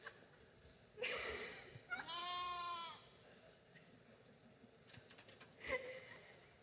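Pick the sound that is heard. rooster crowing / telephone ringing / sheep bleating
sheep bleating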